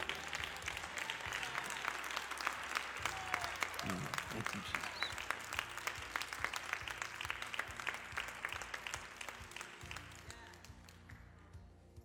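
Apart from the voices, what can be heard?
audience applause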